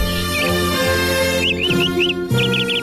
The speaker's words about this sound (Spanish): El que siembra arbolitos, cosecha pajaritos. Bio, bio, bio, bio, bio.